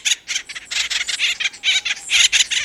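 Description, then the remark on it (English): Harsh, raspy calls of an acorn woodpecker repeat in a rapid, chattering series, loud, with scratchy squawking notes tumbling over one another without pause. “The cartoon Woody was an imp, but the acorn woodpecker is an industrious bird.”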